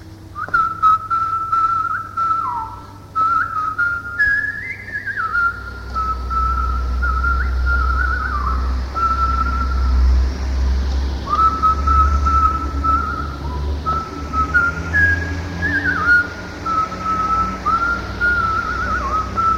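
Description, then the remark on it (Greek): A person whistles a melodic tune, the clear tone gliding between notes in phrases for about twenty seconds, over a steady low rumble in the background. “Τώρα σου σφυρίξω.”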